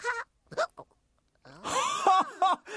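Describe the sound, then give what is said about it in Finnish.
A run of voiced hiccups, several short sharp gulps followed by a longer stretch of hiccuping sounds, fairly loud, performed by a voice imitating a character who hiccups after gulping down bubbly lemonade in one go, with no other talk. “Miten hikan saa pois?”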